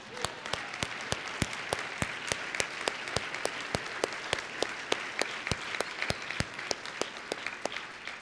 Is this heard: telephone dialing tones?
no